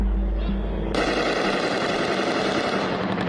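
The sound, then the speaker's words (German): A massive exchange of gunfire in the Syrian city of Hasake, as Kurdish fighters and the US military fire on hundreds of IS fighters breaking out of a prison: dense, overlapping bursts of rapid automatic shots crackle loudly and continuously after a brief low rumble, with no talking. “Massive Schusswechsel. Wir hören sie in der syrischen Stadt Hasake.”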